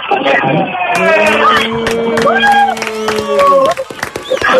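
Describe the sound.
Many voices join in one long, loud unison shout that holds for about three seconds, with scattered claps and cheers around it before it breaks off.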